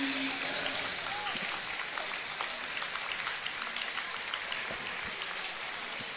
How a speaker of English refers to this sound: Yep, nice applause for the well-deserving for the seniors. You'll be a part of a very good tradition at Michigan Center girls basketball.